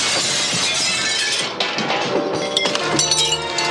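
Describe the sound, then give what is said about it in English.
A large plate glass window is broken through and shatters loudly, followed by a sustained cascade of tinkling, clinking shards falling and scattering for several seconds, bright with no voices. “Yeah, we got to break through the plate glass window.”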